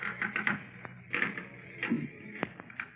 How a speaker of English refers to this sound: Golly, this bed's creaking's almost as loud as Barney's snoring.